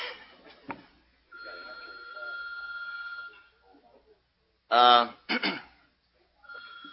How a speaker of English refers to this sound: Is that bell telling us something?